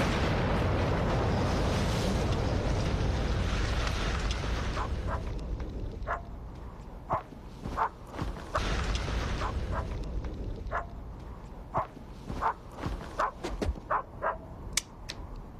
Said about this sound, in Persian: همه چی آماده است، برید عقب لطفا. انفجار!